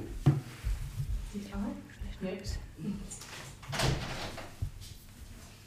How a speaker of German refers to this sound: Ich mache mal hier die Balkontür auch noch zu.